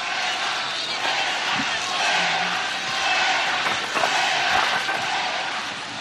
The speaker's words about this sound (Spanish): fue tomar la palabra Alejandro Rojas Marcos y empezaron a oírse gritos, silbidos. Mira, vamos a escucharlo